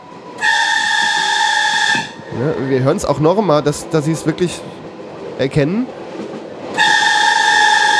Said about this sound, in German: Sie kommen an einen unbeschränkten Bahnübergang und hören dieses Pfeifen. Jetzt hören wir ein Pfeifen.